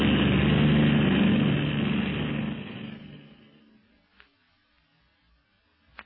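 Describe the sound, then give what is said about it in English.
The engine of a secret police airplane roars loudly and steadily, then fades away over a few seconds as it passes, leaving near silence broken by a couple of faint clicks. “Where is the plane of the secret police now”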